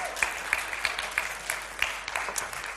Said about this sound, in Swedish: Så jag tycker att ni kan ge mig en stor applåd.